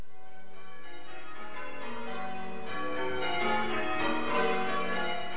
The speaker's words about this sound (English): And a few weeks ago, the Essex Association of Chained Ringers organised a course which allowed bell ringers to prepare for this week's special event.